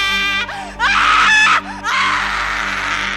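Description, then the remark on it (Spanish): A loud, piercing scream fills a room, rising in several harsh bursts, each one shrill and strained, breaking off briefly before surging again into a sustained, terrifying shriek. “En ese momento, un grito aterrador llenó la habitación”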